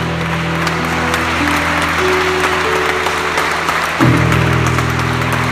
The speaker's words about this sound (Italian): Un applauso a Gesù, il Signore.